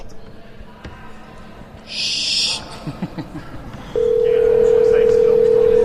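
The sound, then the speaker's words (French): A burst of noise and a few short tones give way to a steady telephone dial tone that holds loud and unbroken to the end, with faint background voices underneath. “Lève le son de ton téléphone.”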